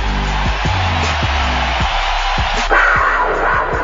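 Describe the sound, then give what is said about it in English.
A loud, sustained roar of a large stadium crowd giving a standing ovation as Jaguars quarterback Blake Bortles comes out, cheering and applauding, a dense wash of noise with scattered whoops and yells rising above it throughout. “You will hear the crowd. You hear them already. It's a standing ovation, folks.”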